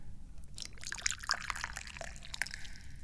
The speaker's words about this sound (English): I'm very thirsty for tea. So let's pour.